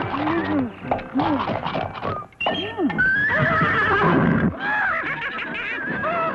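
A horse neighs loudly, letting out several shrill, quavering whinnies in a row that rise and fall in pitch, with short breathy pauses between them.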